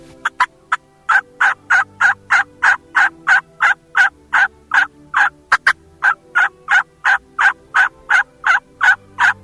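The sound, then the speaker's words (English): A long, rapid run of loud, excited turkey yelps blown on a mouth call, about two or three per second in a steady cadence, with no talking. “Do those kind of type of yelps on a mouth call, you'll call a lot of fall turkeys.”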